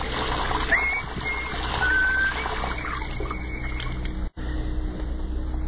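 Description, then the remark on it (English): Shower water runs in a steady hiss that fills the whole stretch, cutting out for an instant near the end before resuming. Nobody speaks. “Major Hall stepped out of the shower, reached for one of the towels on the rack.”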